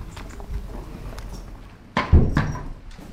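Low, muffled shuffling and a few heavy knocks, like horse hooves shifting on a stable floor, in a stable holding five horses on a farm outside Vetlanda, with a louder thump and scrape near the end.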